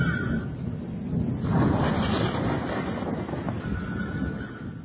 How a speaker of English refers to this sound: I think a storm's coming.